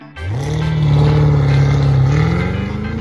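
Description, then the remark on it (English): The supercharged 668-horsepower 6.2-liter V8 engine of a Cadillac CT5-V Blackwing starts with a sharp bark and revs hard, its deep, loud roar rising and holding, with a whining supercharger edge and no voices. “The CT5V Blackwing has rapier-like handling, incredible ride sophistication, and the mother of all engines, a supercharged 668 horsepower, 6.2-liter V8.”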